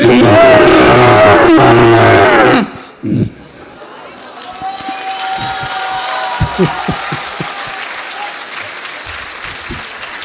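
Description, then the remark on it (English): A loud, harsh screech from a human voice mimicking a giant, enraged, screaming elephant, lasting a couple of seconds, then giving way to quieter background noise and soft murmuring. “His eyes were red with rage, this elephant. Глаза этого слона были красные от гнева, от ярости. He was screaming.”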